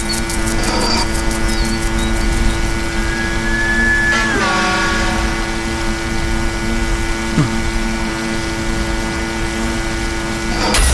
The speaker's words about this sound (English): Oh, shit. Sounds like a lawnmower.